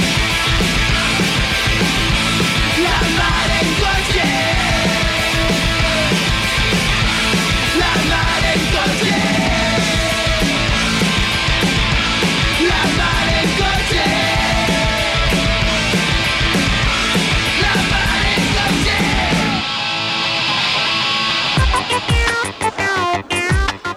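A loud, dense punk rock song, given by a band as a gift to the show La Mar en coche, with shouted vocals over driving drums and distorted guitars, steady and relentless, before the texture thins near the end into sharper, choppier hits.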